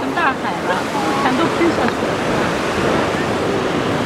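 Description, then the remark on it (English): Steady, roaring surf crashes, a dense wash of churning white water mixed with gusty wind noise, while a faint voice is briefly audible near the start. “I keep talking about the whiteness of the water. The surf? I feel like there's a word for that. When water gets all crashy.”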